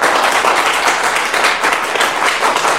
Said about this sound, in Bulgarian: Все пак не бързите толкова с аплодисментите